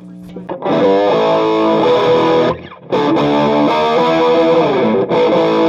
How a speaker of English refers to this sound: This has the same tremolo. It has a little bit different reverb on it. This has a constant current drive with a drive in the reverb tank